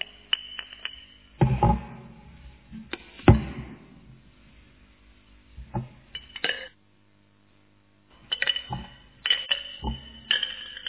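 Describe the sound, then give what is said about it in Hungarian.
Stones drop into a glass jar in irregular bursts, sharp bright clinks and rattles, some heavy thuds among them, a brief silence, then a final flurry of clattering. “De a kövek? Nem. Akkor most figyelni kell.”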